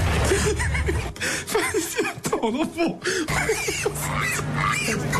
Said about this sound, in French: Alors, je précise ça, ce ne sont pas les rires des journalistes, hein, ce sont les cris de cochon que vous venez d'entendre.